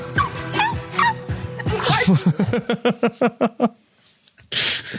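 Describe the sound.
A woman's voice imitates a barking dog or seal, letting out a quick series of about eight sharp, rhythmic yelps, then a brief breathy burst at the end.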